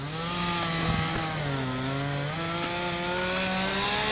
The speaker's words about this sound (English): A crew of men used chainsaws and four-wheelers to cut up limbs and carry off the remnants of trees strewn about cluttered lots.